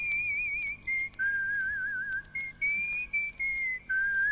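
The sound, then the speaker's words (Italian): A single person whistles a wavering film-score melody from the 1960s-70s, clear and sustained, with short phrases separated by brief pauses and slight vibrato on held notes, played from a vinyl record with faint background noise. “Non so se sentite. Questo è Morricone? Sì. Fischio.”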